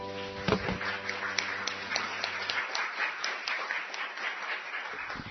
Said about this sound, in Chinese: 将你最大的掌声送给上帝，好吗？